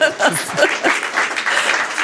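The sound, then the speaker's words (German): An audience claps steadily for about two seconds, a dense crackling wash of many hands, with a few voices and light laughter mixed in near the start. “Sie dürfen klatschen.”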